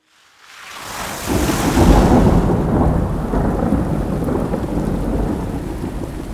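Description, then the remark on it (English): A deep roll of thunder swells in over the first two seconds and rumbles on beneath a steady, heavy summer downpour pouring from a pitch-black night sky, loud, with no voices. “The fresh summer rain was pouring out of the pitch-black night sky as BC headed into a jeep.”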